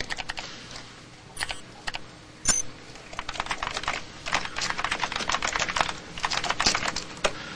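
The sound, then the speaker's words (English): Quick, uneven keystrokes clatter on a computer keyboard in a dark hotel suite as a password is typed in as a guest user. Some isolated taps are followed by denser bursts of typing, moderately loud, with no voices. “He punches in a password as a guest user, then walks to another keyboard with a small screen.”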